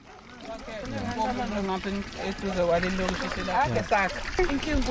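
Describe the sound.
Water pours steadily from a brand new standpipe sticking out of the ground into plastic containers in the province of KwaZulu-Natal, a continuous splashing trickle partly buried under the lively chatter of several women and young girls filling the containers.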